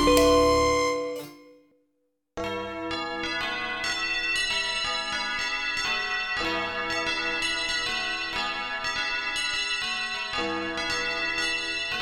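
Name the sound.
bells ringing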